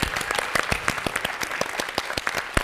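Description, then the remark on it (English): An audience applauds the BSL interpreters, many hands clapping in a dense, continuous patter with sharp individual claps poking through, sustained at a moderate level for the whole stretch. “And also, I'd love you all to give a great round of applause to our BSL interpreters”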